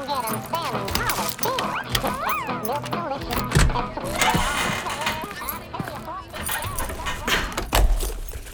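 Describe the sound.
A bunch of borrowed keys jangles and clinks, followed by scraping and clicking as the locked staff-entrance door behind a mine train ride is worked open, with a voice talking over the metallic rattling.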